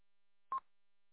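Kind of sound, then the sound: signal or alarm, telephone keypad tones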